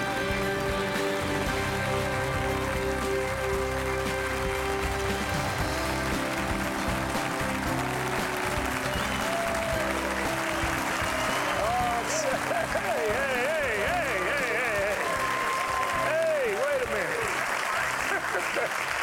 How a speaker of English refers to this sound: A lot of them are clapping for their pastor. I mean, they drove all the way. They drove 2 miles to get here. They drove all the way across the Metroplex to get here because they love this person.